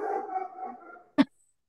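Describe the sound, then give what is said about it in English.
A dog lets out a drawn-out, wavering howl for about a second, then a short pause before one sharp, loud bark. No one speaks. “He has a great, great bark.”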